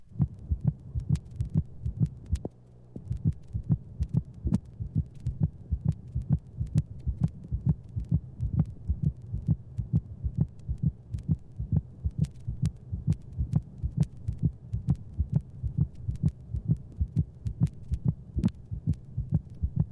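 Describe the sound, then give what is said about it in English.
A dog's heartbeat with a split second heart sound: steady, rapid, low-pitched thumps in an even rhythm with a soft hum beneath, and no talking over it. It was recorded from a dog with heartworms and has a lub-drup rhythm. “This split second sound was recorded from a dog with heartworms.”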